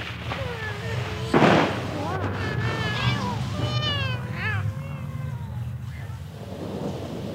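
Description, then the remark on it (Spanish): Several cats, a family of cats walking with water falling on them, meow in overlapping, wavering cries that rise and fall in pitch, over a steady low rumble, with a loud noisy burst near the start. “Y todos saben que el agua no es cosa de gatos.”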